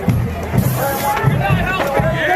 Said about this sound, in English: In this video, you can hear a crowd of several dozen charge a single man standing in front of the van. They mace him repeatedly and beat his arms and legs with batons.